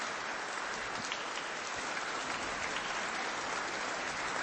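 A crowd applauds steadily, a dense, even wash of many hands clapping at once that holds at a constant level for the whole stretch, with no voices breaking through.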